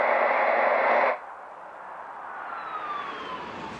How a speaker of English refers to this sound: A car radio bleats.